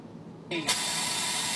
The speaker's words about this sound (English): This bus pulled in and fucking stopped my dreams.